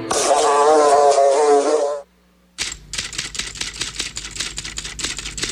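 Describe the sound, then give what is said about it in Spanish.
A fly's loud, wavering buzz with a harmonic drone, the identifying buzz of the programme El Ojo de la Mosca, lasts about two seconds, then after a short silence comes a rapid, steady series of sharp clicks and taps, like typing. “Identifica el zumbido de El Ojo de la Mosca.”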